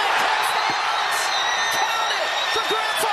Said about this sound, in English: We can get that crazy scream from that one Grand Canyon fan.